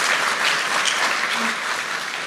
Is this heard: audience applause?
yes